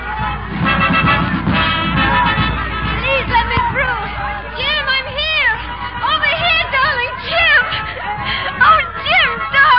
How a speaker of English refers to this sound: I was on the pier waiting. I'd been there since 7 that morning. And then at last I saw you. How I got through that crowd, I'll never know.